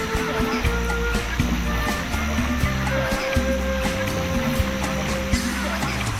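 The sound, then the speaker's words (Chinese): Steady, continuous rush of water flowing in Alley Creek, a spring-fed creek on Fraser Island, fills the scene at a moderate level, with a low, droning hum running underneath throughout. The creek is fed by underground springs and carries four million litres of water an hour into the sea. “这条小溪名叫 Alley Creek，是地下泉水形成的，每小时有400万立升的水流入大海。”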